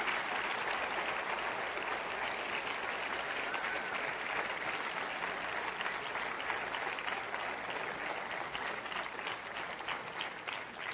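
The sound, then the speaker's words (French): Sustained applause from a large audience as a group returns to their seats, a steady dense clatter of many hands clapping at an even, loud level for the whole stretch, with no one speaking over it. “Je vais les inviter à retourner à leur place sous vos applaudissements ce matin, alors qu'ils vont à leur place, qu'on puisse recevoir une inspiration de la génération Néhémie.”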